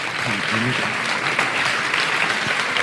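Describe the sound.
A crowd applauds a representative of Olympus coming up to hand over a recorder, in a dense, steady wash of clapping that lasts throughout, with a voice briefly audible underneath at the start.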